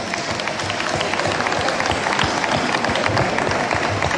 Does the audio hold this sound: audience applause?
yes